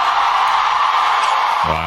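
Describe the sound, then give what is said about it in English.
A large crowd at a rally cheers in a loud, steady roar of mixed voices, with a single sustained shout rising out of the noise just before the end. “Well, you know, listen to who was cheering.”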